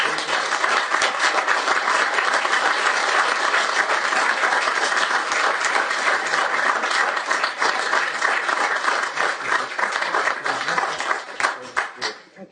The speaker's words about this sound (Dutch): En daarvoor nogmaals een davend applaus.